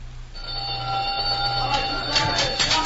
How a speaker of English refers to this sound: The gong will sound off any minute. The men will be crowding for supper.